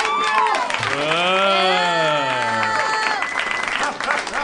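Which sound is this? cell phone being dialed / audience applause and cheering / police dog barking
audience applause and cheering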